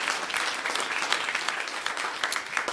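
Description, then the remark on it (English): An audience claps together in sustained praise to the Lord for testimonies, a dense, steady wash of many hands applauding at once for a few seconds, with no voices standing out. “Let's give the Lord a hand clap of praise for these wonderful testimonies.”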